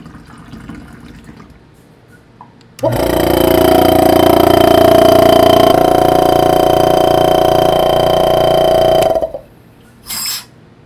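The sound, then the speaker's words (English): A pump starts abruptly and runs loud and steady for about six seconds as muddy water is pumped and filtered in a water chemistry lab, water rushing and churning through it with a mechanical hum, then cuts off, followed by a brief splash. “You heard muddy water being pumped and filtered in a water chemistry lab.”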